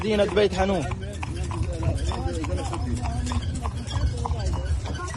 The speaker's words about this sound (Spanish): Mientras, miles de palestinos se han ido desplazando ya desde el sur hacia el norte. Algunos lo hacen en carros tirados por caballos.